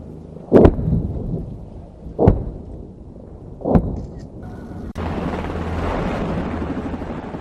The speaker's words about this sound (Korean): 한국군의 K-200 장갑차가 엄청난 화력과 폭발음을 내며 포탄을 발사하자 표적이 폭파되며 흙먼지가 피어오릅니다.